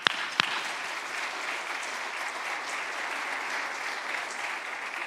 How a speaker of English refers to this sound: Give our God a hand clap.